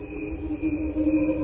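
Crickets slowed far down into a steady, droning hum of sustained tones that sounds almost like a distant choir, continuous and fairly loud with gentle pulsing swells and no voices.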